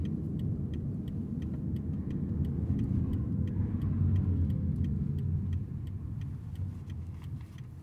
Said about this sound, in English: This is kind of eerie because you actually hear a lot more of the what the traffic outside this car is doing. Mm-hmm. We're going up a bit of a hill. Yeah. Because there is not the engine noise in this car to mask out what's happening outside.